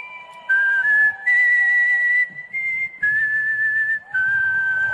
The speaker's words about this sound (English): That's something different. Yeah, not my favorite. Can you whistle like that? Yeah, not like that. No, not like that. Well, that's pretty good.